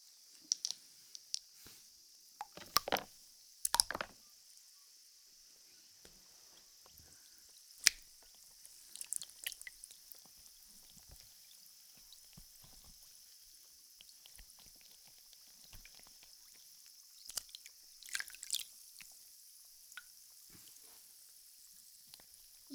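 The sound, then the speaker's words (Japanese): Wet massage of freshly shaved skin with carbonated water: a steady soft fizzing hiss runs throughout, broken by scattered wet clicks, drips and brief squishy rubbing sounds, fairly quiet, with no talking. “次は 剃ったとこを炭酸水でマッサージです。”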